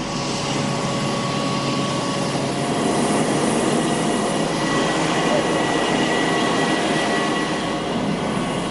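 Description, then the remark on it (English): A loud, steady roar of airplane engines on an airport tarmac drones without a break, with a faint whine riding over it and indistinct voices barely audible beneath, as journalists walk towards the Iranian president's airplane, bound for Yazd. “Journalists are walking towards the president's airplane.”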